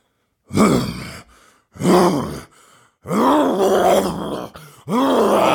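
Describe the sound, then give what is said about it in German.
A human voice imitates a lion with four loud, growling roars, each a deep, rough burst with pauses between. The third roar stretches longest before a final one closes the sequence. “Das ist ein Hengst, das ist ein Pferd. Nein? Löwe. Ja.”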